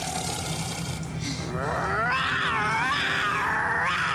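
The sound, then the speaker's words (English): A big cat cub growls in a strained, wavering snarl that rises and falls in pitch for a few seconds, fairly loud, over a low steady rumble in the background. “Make mine a cub sandwich.”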